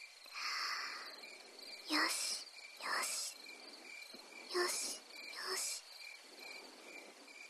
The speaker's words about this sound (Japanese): 意識は鈴虫の鳴き声や子守歌に雨音の中に紛れて、一緒にうちの声も溶け込んでいきます。